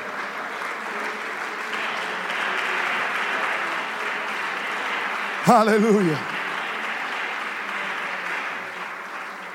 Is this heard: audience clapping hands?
yes